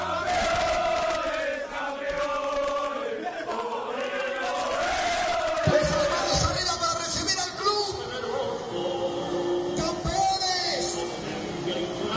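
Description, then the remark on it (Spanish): A large crowd of Real Madrid fans in Madrid, celebrating the club's 11th Champions League title after the final whistle, cheers and chants together in a loud, sustained roar, with rising shouted tones and steady group singing filling the whole stretch. “una fiesta por todo lo alto para celebrar otra Champions que se va a las vitrinas del Real Madrid”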